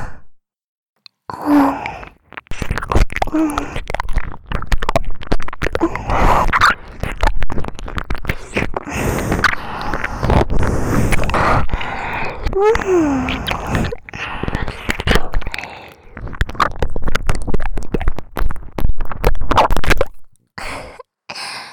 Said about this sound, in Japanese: いやらしいよだれの音、頭の中までびしょびしょになりそうなえぐーい水の音、もっと聞いてほしいな。